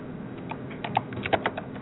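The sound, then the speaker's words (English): Quick, irregular clicks of someone typing on a computer keyboard, fairly soft, with a steady low hum underneath and no voices. “You can keep that typing down.”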